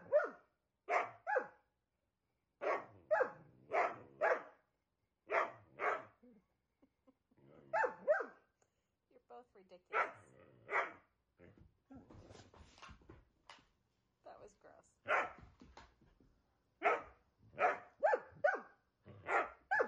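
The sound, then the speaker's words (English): Dogs bark repeatedly in quick clusters of sharp yaps, with brief pauses and a stretch of softer whining and low growls in the middle; nobody speaks. “Coming up next, dogs love barking.”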